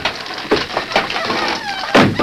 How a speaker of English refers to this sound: The great horse Silver drew back as the door crashed down before the onslaught of his powerful hoofs.